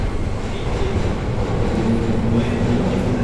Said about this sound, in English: So my train is here, so I have to shut up and get on the train.